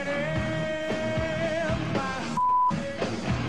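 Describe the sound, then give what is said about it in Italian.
A single short, steady censor bleep cuts in for about a third of a second, briefly replacing a loud live rock recording before the music resumes. “Bippata questa. È bippata.”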